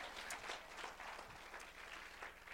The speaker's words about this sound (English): That's the word of God. Let's clap our hands for the word of God.